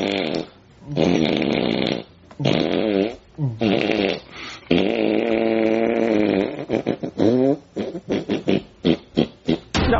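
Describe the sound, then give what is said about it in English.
Loud, buzzy fart-like blasts with wavering pitch, several long drawn-out ones followed by a quick run of short sputtering bursts, with no talking. “I think I got one coming.”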